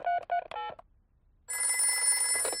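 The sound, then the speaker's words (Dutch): Three quick electronic dialing beeps, a short pause, then a loud, steady phone ring with a bright, buzzing, multi-toned trill that continues to the end, as Doctor Brown Bear (Dokter Bruinbeer) is phoned in a Peppa Pig cartoon. “Weet je wat? Ik bel dokter Bruinbeer.”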